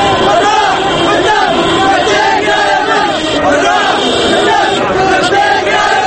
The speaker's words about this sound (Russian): Тысячи манифестантов выкрикивают антиправительственные лозунги. В последние недели такое скандирование можно было услышать в Тунисе, затем в Египте, теперь пришла очередь Йемена.